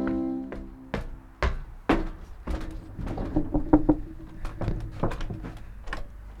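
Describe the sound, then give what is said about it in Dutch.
The door of the Opium Atelier is handled: a series of sharp knocks and thunks, a rattle of the handle and latch, and clattering bumps as it swings and shuts, with no talking. “Oh nee, ik dacht even dat hij op slot was. Even de deur achter me sluiten.”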